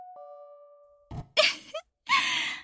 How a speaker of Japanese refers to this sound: ああ、やっとドア開いてくれた。20回もチャイムを鳴らしてずっと出てこないから、今日はもう会えないんじゃないかって心配しちゃいました。